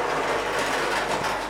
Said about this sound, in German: Ein Bobbycar-Geräusch, da kommt ein Kind.